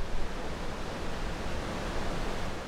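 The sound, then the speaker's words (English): A steady, dense roar of rushing water flows continuously without breaks, broad and even like a heavy torrent: thousands of gallons flowing underneath the enormous sluice gates of a storm surge barrier, heard from the bridge along it. No voices are heard. “Walking along the bridge past the enormous sluice gates, you can hear thousands of gallons of rushing water flowing underneath.”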